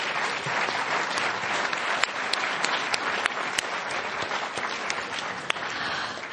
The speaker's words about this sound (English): Alrighty, so that is the end of this round. Everyone give the candidates a big round of applause.